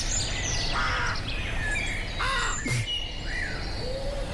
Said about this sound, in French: Si vous voulez quelque chose de plus nature, on peut aussi écouter les bruits d'une forêt bernoise. Oh le bonheur.